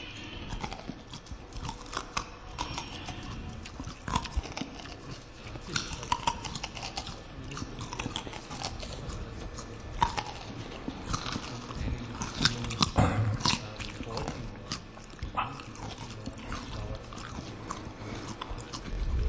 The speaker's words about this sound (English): Carrot chewing. Chew a carrot very close to the microphone.